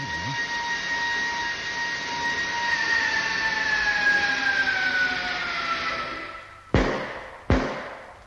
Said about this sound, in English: There it goes again. On the other side this time. It's as though somebody were walking around the ship and tapping it to see what it was made of. Or trying to find a way in.